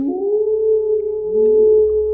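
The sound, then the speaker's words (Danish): A person outside imitates a dog howling at the moon, very loud, deep and high, holding one long, steady wailing tone for about two seconds, while a second lower voice slides upward underneath partway through. “Ikke sådan blive slået hyle, men sådan hund, der hyler mod månen hyl.”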